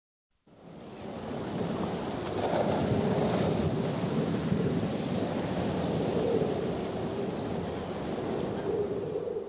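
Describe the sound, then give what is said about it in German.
Roaring force 10 storm wind whips across heavy North Sea surf driving toward the coast at flood tide, a continuous loud rush of crashing waves and buffeting gusts with low rumbling, steady for several seconds without any voices. “Der Sturm peitscht das Meer, rast über das Land. Riesige Wassermassen der Nordsee treiben direkt auf die Küste zu.”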